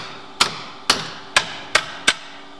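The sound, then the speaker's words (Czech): Five sharp, bright strikes ring out at a steady pace, each a hard tap on slate with a short ringing decay, fairly loud with no voices, as mined slate is split and shaped in a processing hall. “V hale ji pak štípají a dále tvarují.”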